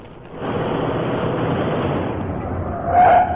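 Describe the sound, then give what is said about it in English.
A car rumbles along steadily, then its tires let out a short, sharp screech near the end as it skids to a stop. “Yeah, stop the car.”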